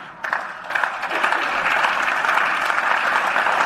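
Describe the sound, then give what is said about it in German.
Applause following a statement by Andreas Babler on Walter Rosenkranz as National Council president, starting sparse and quickly swelling into dense, steady clapping that holds at a fairly loud level for several seconds, with no voices over it. “Ja, da hat es also Applaus gegeben und diese Abgrenzung war für viele einfach nicht gegeben, offenbar.”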